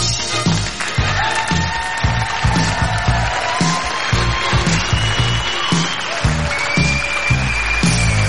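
A crowd applauds loudly and steadily, with cheers and whoops rising over the dense clapping throughout, plus a few high shouts and whistles.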